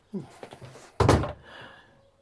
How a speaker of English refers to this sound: Would you shut the door? I need to speak to you.